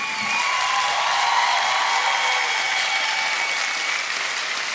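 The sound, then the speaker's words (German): Steady applause from many hands played from tape as a farewell, a dense, even patter of clapping with a few faint cheers, continuous for the whole stretch without anyone talking over it. “Ich euch auch und zum Abschied kriegt ihr einen großen Applaus von uns.”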